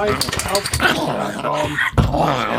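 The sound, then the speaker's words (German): A small pug dog named Leopold whines and growls in short bursts, with voices talking around it and some shuffling movement. “Das ist unser kleiner Mops.”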